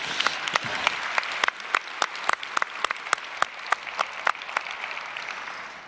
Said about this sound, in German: Also dafür Applaus an alle anderen, als die, die hier sitzen.